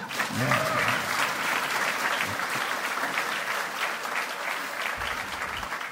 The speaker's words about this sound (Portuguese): que gostaria de receber um novo aplauso, já percebi.